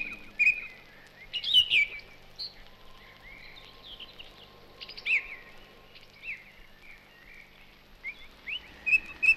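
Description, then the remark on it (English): Several birds chirp and twitter in bursts of bright, high notes, heard from inside a shed through its open door or window, with a faint steady hum beneath and no voices. “Just open the door or the window of our shed and a little bit of bird song.”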